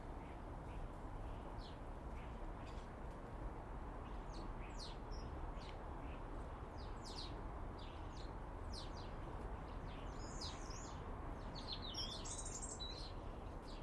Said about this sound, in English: Very peaceful. Try to ignore the ambient intrusive sounds. Just enjoy the birds.